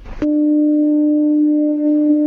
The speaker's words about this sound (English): You can hear that electronic foghorn. Yeah, so those who have ears to hear can understand what exactly it's saying. He knew there was another snowfall coming in because he heard the Dunleary foghorn.